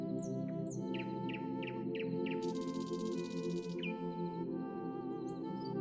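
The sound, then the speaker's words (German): A bird sings a quick run of bright, repeated chirps over a steady low hum and drone, with a brief hissing rush partway through before a few more calls. The bird flies through the air and settles on a branch in a snow-covered landscape. “Ein singender Vogel fliegt durch die Luft und setzt sich auf einen Ast.”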